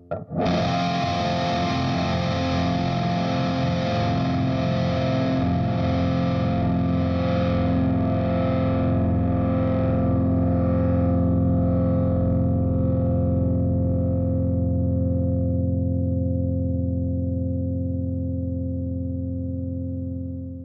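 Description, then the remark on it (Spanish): A saturated, heavily distorted guitar tone from a distortion pedal, set almost to burn its diodes, rings out loud and sustained, with a heavily compressed, steady signal and bright fizz fading slowly over about twenty seconds. No voices. “Entonces por eso pues ese es el tono como tal de la distorsión, ¿no?”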